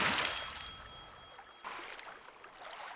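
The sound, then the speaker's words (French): A bright, noisy splash as Gaston backs away and falls into a river, followed by a few seconds of churning, bubbling water with a second smaller surge near the end. No voices. “Il recule et tombe dans la rivière.”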